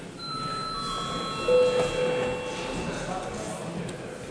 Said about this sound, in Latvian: Lūdzu zvanu, lūdzu deputātu klātbūtnes reģistrācijas režīmu.